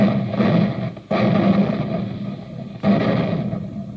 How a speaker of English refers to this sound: Well, it takes tons of smokeless powder to keep those big guns booming, the big guns that help our fighting men to victory.